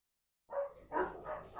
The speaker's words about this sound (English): The dog is fighting the other dog through the fence. Yeah. Except one is like, could eat the other one.